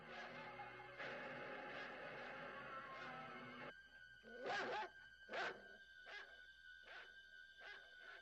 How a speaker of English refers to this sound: I'm about to be ripped apart by the family dog. Lindsay, get this dog out of the kitchen right now.